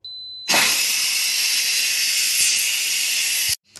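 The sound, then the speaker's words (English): A loud, steady rush of steam hisses from an Instant Pot during a quick pressure release, starting abruptly after a brief high beep-like tone and cutting off sharply near the end. “So let's release the pressure on the Instant Pot because we're doing a quick pressure release.”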